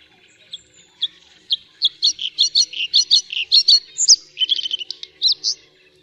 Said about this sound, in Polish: Dźwięki te stopniowo przyspieszają i zmieniają się w nieco bardziej melodyjną kaskadę modulowanych gwizdów o zmiennej wysokości.